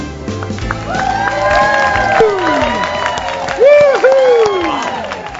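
A standing-room-only audience at the live broadcast of Dean Richards' Treetime Holiday Spectacular, at Treetime Christmas Creations in Lake Barrington, claps steadily for about five seconds, a dense rattle of many hands mixed with loud whoops and rising and falling cheers.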